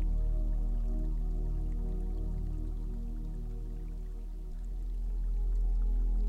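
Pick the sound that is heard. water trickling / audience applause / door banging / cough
water trickling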